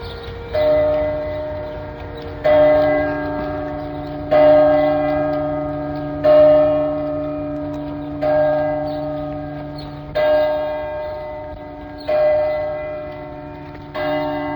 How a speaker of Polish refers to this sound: i wreszcie dzwon Katarzynki woła, że czas wstawać.